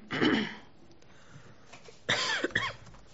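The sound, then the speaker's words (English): A person coughs during a county board meeting: one rough burst, a short pause, then a quick cluster of two or three harsher, throaty coughs against a quiet background. “you need a cough drop.”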